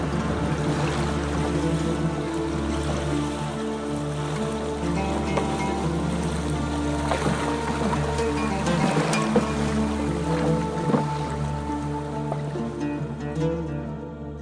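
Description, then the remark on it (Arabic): A steady, loud wash of storm waves and wind surrounds a boat at sea, churning without pause, with a low droning hum running beneath the rough water. “وكأن البحر والريح سمعوا الكلمة، وزي ما طلعت الريح علينا فجأة هبطت الريح والموج في ثانية،”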